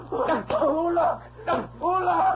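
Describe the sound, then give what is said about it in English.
Two sharp lashes of a dog whip crack about a second apart, loud, cutting through a man's pained, wavering cries that continue between and after the strikes. “Give me that dog whip.”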